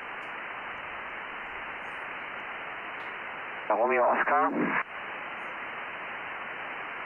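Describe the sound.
Steady, band-limited hiss of amateur radio static on a contest frequency, heard in the morning shortly after 8, briefly interrupted by a short burst of a voice giving contest call signs over the channel before the noise returns alone.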